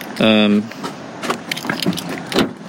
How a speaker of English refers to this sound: Okay, we're going to get in the car here, are we? Yeah, let's get in. It's a bit chillier.